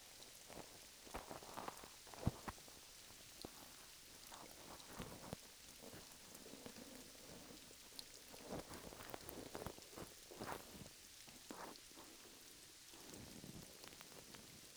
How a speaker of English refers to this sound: It started raining.